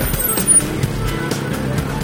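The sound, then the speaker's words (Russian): Low, steady rumble of the engines of three approaching cars, a Niva followed by two others, on a snowy road, a dull continuous drone with faint, regular muffled thumps of music from the brightly lit cabins running through it. “Вскоре стало слышно глухое ворчание моторов и приглушенные ритмы мелодий, бушующих в ярко освещенных кабинах.”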